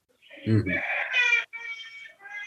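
A child cries while leaving the house, several drawn-out, high-pitched crying bursts with brief breaks between them, muffled and moderately faint, with a low thump near the start.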